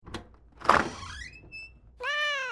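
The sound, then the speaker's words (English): A dull thump is followed by a cat meowing twice, first a rising, drawn-out cry, then a louder, steadier meow. Nobody speaks. “Don't let the cat out.”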